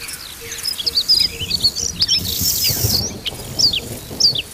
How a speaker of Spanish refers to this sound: puerto de Tornavaca, de ahí para arriba, donde Extremadura ya se funde con Ávila, con Castilla y León, y escuchamos una tormenta que viene a lo lejos y las voces de las aves de montaña.